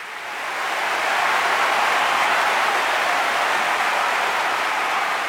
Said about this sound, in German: Tosender Applaus brandete auf.